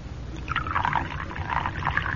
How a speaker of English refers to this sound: Now unscrew the top. That's it. Now pour it into the cocoa.